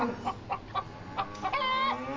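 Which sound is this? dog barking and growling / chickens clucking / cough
chickens clucking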